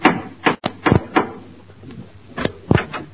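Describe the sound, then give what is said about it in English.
Gracie Allen knocks at the door of Herbert Marshall's house: several firm knocks, a quick uneven cluster of about five raps, a pause, then two more, in a slightly muffled, band-limited recording with no talking. “She knocks at the door.”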